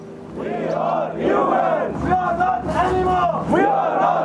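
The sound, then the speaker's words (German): A group of Iranian refugees marching through the rows of tents in a camp chants loudly in unison, "we are human beings, not animals," rising and falling in rhythmic shouted phrases over a steady low hum, the chant pulsing in repeated swells for several seconds. “Fast täglich marschiert eine Gruppe iranischer Geflüchteter durch die Zeltreihen. Sie rufen, wir sind Menschen, keine Tiere.”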